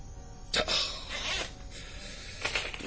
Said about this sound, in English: The way you keep typing at that thing, it sounds like it could be a long night.